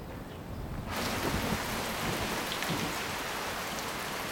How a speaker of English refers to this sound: Then, rain pours over the one-story houses.